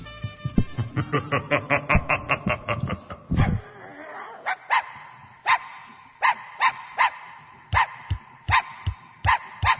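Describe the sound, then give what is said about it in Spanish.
Small dogs bark in a rapid, rhythmic burst of sharp yips, then continue with spaced, high-pitched barks at a steady pace, clear with no talking. “¿Cómo bailan los perritos? ¡Qué alegría! Y qué lindos que están.”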